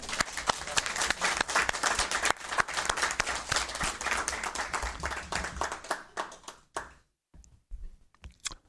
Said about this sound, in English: May we applaud at this point? If there's nobody else leaving. Yes, of course, for our two departing members.